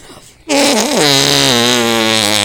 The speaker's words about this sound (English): …, give us a arm fart.